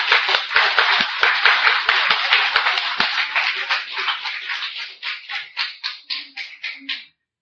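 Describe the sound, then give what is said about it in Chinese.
A crowd applauds with dense, crackling clapping that gradually thins out, ending in a handful of scattered, separate claps before it stops, opening an evening of performances at a Christian gathering. “我们大家拍手，今天晚上开始。”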